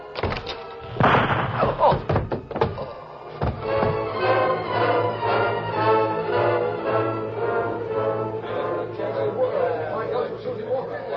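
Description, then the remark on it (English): A deputy opens the door of his small house with a few solid thunks and a clatter in the first seconds, then a steady murmur of several voices talking continues to the end. “Then he knocked out the ashes against the heel of his boot, studied the sky a moment, and opened the door.”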